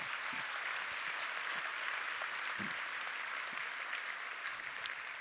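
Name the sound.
audience round of applause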